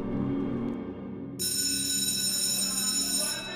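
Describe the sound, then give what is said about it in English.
A loud school bell rings continuously, a harsh metallic clanging that grows brighter partway through and keeps going steadily to the end, with no one speaking. “Finally, the bell rings.”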